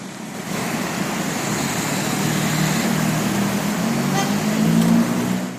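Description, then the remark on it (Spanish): A street in A Coruña, Spain, with cars streaming past, a continuous loud rumble and hiss of engines and tires that swells briefly near the end as a vehicle passes. “Esto con coches y así sin coches.”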